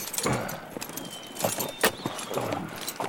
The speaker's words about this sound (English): Side by side, we urged the horses forward. The ropes tightened and the car started to move, its wheels turning fairly easily on the hard-packed dirt. We started moving along at a steady walk.